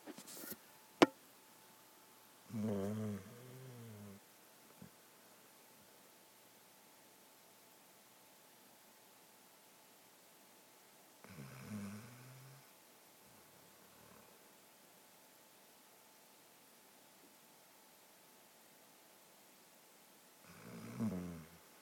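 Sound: snoring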